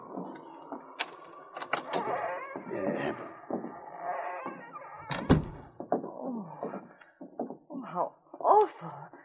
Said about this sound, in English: Oh, it needs repairing. I'll unlock the door.